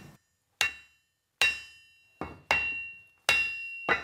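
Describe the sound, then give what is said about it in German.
Six loud, ringing hammer blows at an uneven pace, each with a sharp metallic clang and a short decaying ring, as a craftsman in a small workshop fits wood into a still-hot iron ring, the wood starting to smoke. No voices. “Mit kräftigen Hammerschlägen passt er das Holz in den Eisenring ein.”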